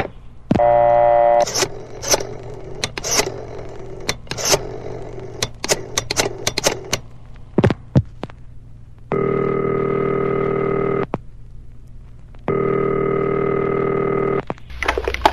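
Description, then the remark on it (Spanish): A phone is dialed for a call on the Radio Insurgente radio program, with a quick series of sharp clicks and short beeps, then two long, steady ringing tones with a pause between them. No one speaks. “Vamos a hablarle por teléfono a Toñita.”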